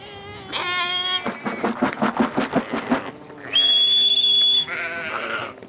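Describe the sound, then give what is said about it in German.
A flock of sheep, rams and lambs bleat as they gallop, with a quick run of rhythmic pulsing sounds in between, then a sustained high whistle and dry bread clattering in a feed bowl before more bleating follows. “Schon rennen Schafe, Schafsböcke und Lämmchen im Galopp”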